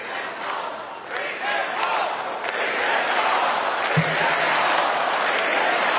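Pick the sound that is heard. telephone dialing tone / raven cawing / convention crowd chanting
convention crowd chanting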